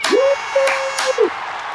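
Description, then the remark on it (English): A short burst of crowd cheering, a steady roar of voices with a sustained whistle rising at the start and dipping at the end, lasting under two seconds. “Was the crowd goes wild.”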